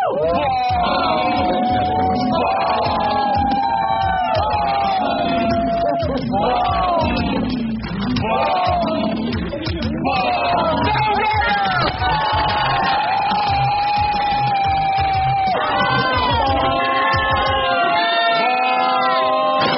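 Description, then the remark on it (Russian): A crowd of many voices shouts hooray together at New Year on the sixth chime, loudly clinking glasses, with sustained overlapping cheers and whoops carrying on without pause for about twenty seconds. “А на шестом ударе все кричат «Ура!» и оглушительно чокаются. И кричат «Ура!» 15 секунд, пока не начинаются новости.”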